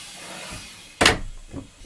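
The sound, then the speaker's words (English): A heavy door of an old GNR third-class carriage on a steam train slams shut with a sharp, loud thud that rings briefly, over a faint steady background hum, followed by a smaller knock at the very end. “And look at the magic of the doors.”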